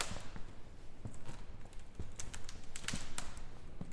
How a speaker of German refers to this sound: Es ist ein runder Raum mit knarzenden Holzdielen.